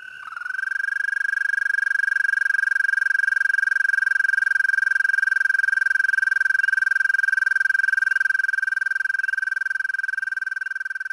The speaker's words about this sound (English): And here's our American toad.